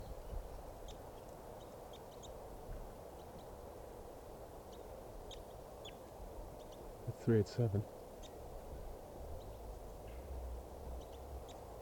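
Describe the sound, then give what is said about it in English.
Faint, scattered high ticks of a wild bird chittering in flight run through a low background rumble, with a quick pair of louder, hoarse calls midway. “Sort of chittering there in flight.”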